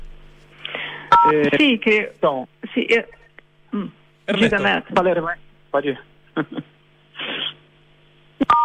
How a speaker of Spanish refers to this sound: Alguien está apretando un botoncito del teléfono que suena como pip, pip, pip, para ver si puede dejar de hacerlo.